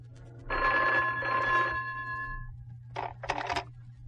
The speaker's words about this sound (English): Just as we got in the door, the phone rang.